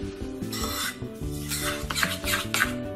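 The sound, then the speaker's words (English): A spoon scrapes and stirs a thick mixture of melted chocolate and coconut around a bowl in repeated rough, rasping strokes, about five or six in a row, over a steady low tonal hum with no talking. “Now get the melted chocolate and get the coconut. Pour it in. And just mix it through.”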